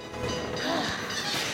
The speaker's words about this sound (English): They jump onto a passing tram, which then stops.